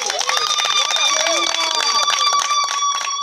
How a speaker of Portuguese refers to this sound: Vamos aplaudir.